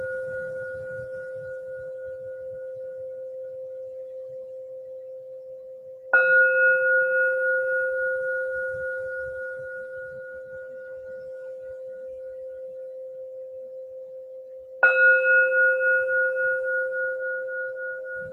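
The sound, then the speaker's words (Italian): A meditation bell is struck three times to open a meditation, spaced several seconds apart, each clear metallic tone ringing out and fading slowly into quiet before the next strike. “In questo sentire se stessi, se stesse, possiamo allora entrare nello spazio della meditazione con tre suoni di campana.”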